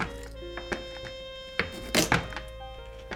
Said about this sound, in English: Next, you'll cut the ends off the carrots and courgettes.